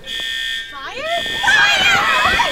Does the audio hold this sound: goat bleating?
no